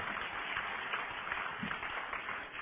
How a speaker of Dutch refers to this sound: Ik weet niet of ik nu tot interrupties oproep. Applaus, dat mag, ja precies.